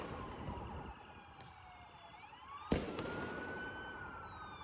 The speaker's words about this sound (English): One of these rocket/firecrackers lands right on the hood of a cop car.